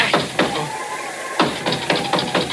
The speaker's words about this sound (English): Who's that? Oh, great. That was the sacred nine knocks of Oompa Papa.